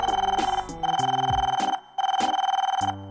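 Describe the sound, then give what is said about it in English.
A video phone rings with a bright electronic trill, three fluttering bursts separated by short gaps, loud with no voices. “Now go and answer the video phone. You have a caller.”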